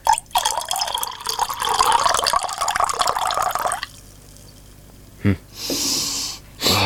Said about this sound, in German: Wir bleiben an der Mosel. Wir gehen nach Peaceport. Die Peaceporter Seichung. Das ist ein halbtrockener Riesling. Gieß mal ein.